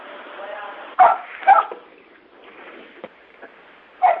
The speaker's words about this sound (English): The person with the dog, please mute.